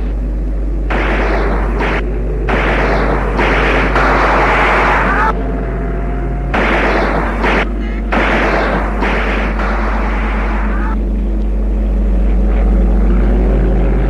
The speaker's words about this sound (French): L'avion envoie des rafales de mitraillettes.